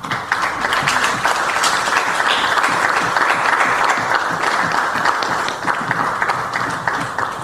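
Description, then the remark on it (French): Sustained audience applause, a dense, steady wash of many hands clapping at an even loudness for the whole stretch, with no voices standing out. “Et pour merci là, ça, pas une autre solution, c'est applaudir.”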